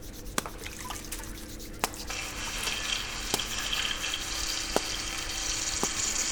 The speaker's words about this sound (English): And I remember it being very windy, so I could hear that the wind was touching the falling water, as it was also touching the trees and moving them.